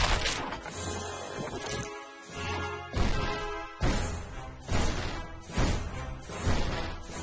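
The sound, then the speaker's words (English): A helicopter crashes on the side of a volcano: loud, dense rumbling and smashing noise with a series of heavy impacts landing roughly every second, sustained throughout, with no voices. “Crashed on the side of the volcano, Kai grimaces and turns to Eddie and Leilani.”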